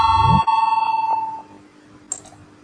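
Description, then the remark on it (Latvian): An electronic voting bell rings out in a parliament chamber before a vote on a proposal: a brief rising tone settles into a steady, pulsing ring that fades after about a second, followed by a short high ping. No one speaks. “Lūdzu zvanu balsosim par pirmo deputātu Tavara iesniegto priekšlikumu”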